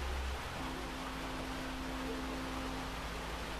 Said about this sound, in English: Disclaimer, if you hear the rain, or I mean, if you hear the raindrops, yeah, it's probably too loud because I'm using this mic or microphone.